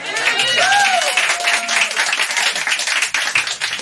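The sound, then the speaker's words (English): An audience at a comedy show claps politely for a few seconds in response to a joke, a moderate, even patter of applause with a brief whoop rising above it near the start. “Polite claps.”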